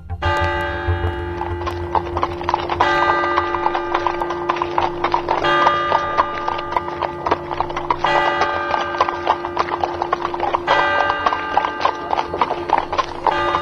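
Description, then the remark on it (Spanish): Horses' hooves of a procession clip-clop steadily past at the Vatican in 1655, a brisk rhythmic clatter over a bright ringing tone, with faint talk and bustle underneath throughout. “Apártate, que vienen los caballos, están pasando delante de nosotros.”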